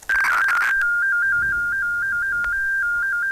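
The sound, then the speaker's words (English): Modem FSK tones: a loud, continuous electronic whine that steps briefly between pitches in a rapid, regular pattern, opening with a burst of buzzy noise. No voices. “So this is the 1200 and 2200 hertz.”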